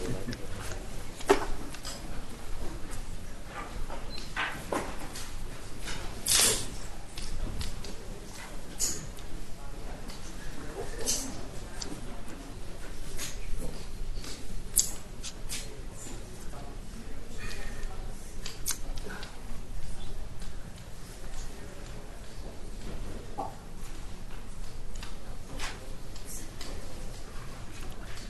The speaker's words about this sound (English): we'll wait until the rustling has died down before we begin the next argument.